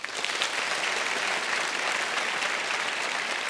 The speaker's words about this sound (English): when I raise my hand, to burst into such enthusiastic applause that people listening in their cars will think, these people must be having a great time.